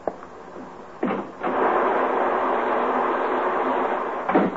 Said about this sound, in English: Is the rain letting up a little, or am I just getting used to it? It doesn't sound as bad as it did.